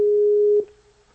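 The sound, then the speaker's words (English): A Skype outgoing call's ringing tone: one steady, clear electronic beep held for about half a second, then cut off abruptly, leaving near silence. No one speaks. “Says calling. I am calling.”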